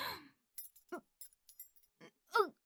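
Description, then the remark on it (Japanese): A bunch of keys jangles in several short, uneven bursts of bright metallic clinking, fairly quiet, with brief pauses between the rattles and a few short voiced sounds mixed in, as the keys are used to undo restraints. “おい、その鍵束は貴様が扱っていいものではない。”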